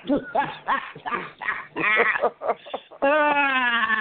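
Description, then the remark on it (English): A cat meows loudly, a rapid run of short, wavering cries followed by one long, drawn-out yowl. “Listen, leave that damn cat alone.”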